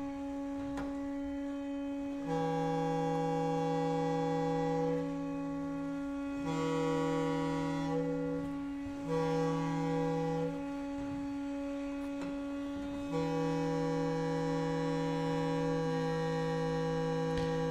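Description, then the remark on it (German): Balloons being squeezed and rubbed, giving quiet, steady droning tones that overlap in layers, in several long stretches of a few seconds with short pauses between, with no talking. “Und ganz leise spielen immer noch die Ballone.”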